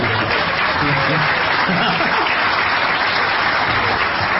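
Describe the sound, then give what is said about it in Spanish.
Steady applause from an audience, a dense, even wash of many clapping hands that holds at the same loud level for a few seconds, with faint voices murmuring underneath. “Un solo aplauso.”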